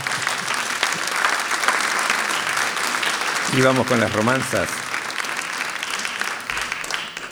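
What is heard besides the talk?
audience applause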